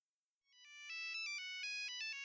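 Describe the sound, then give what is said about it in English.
A cell phone ringtone plays a bright, electronic melody of quick stepped tones, starting after a brief silence and continuing steadily at moderate loudness with no voices. “I think that cell phone is mine. No, Cecilia, it's mine. Are you sure? No, it is yours. Mine has a different ring.”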